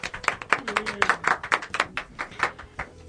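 A few seconds of scattered applause from a small group, quick uneven claps overlapping at moderate loudness, with a faint murmur of voices underneath.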